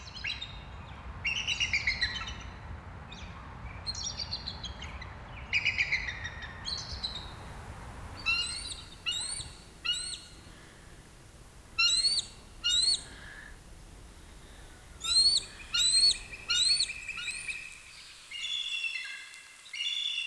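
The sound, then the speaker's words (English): Bald eagle calls ring out as high, thin chittering notes in quick bursts, repeated with brief pauses over a faint low rumble that fades away; no one speaks. “This has been WSHU's Bird Song Break, featuring the bald eagle as we celebrate America 250 this weekend.”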